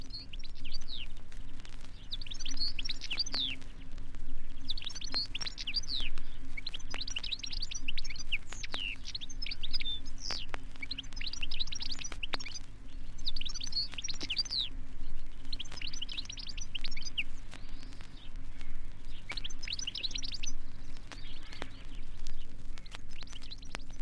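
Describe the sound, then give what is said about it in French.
A European goldfinch sings a bright, rapid twittering song in repeated bursts of tinkling, liquid notes over a steady low hum of background noise, with no voices. “Gais et enjoués, les chardonnerets aiment les grands arbres qui bordent les ruisseaux.”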